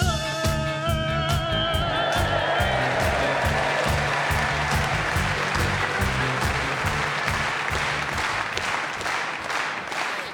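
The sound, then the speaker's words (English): An audience claps slowly and in unison, loud steady beats about twice a second that carry on throughout, while a fading musical tone lingers over the first few seconds. “Well, we all know what a slow hand clap means,”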